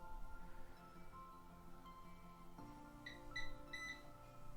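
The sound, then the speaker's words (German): A Eufy robot vacuum gives a quick series of four or five short, high electronic beeps in a steady rhythm over a constant low mechanical hum as its buttons are pressed, with no one speaking. “Der piepst.”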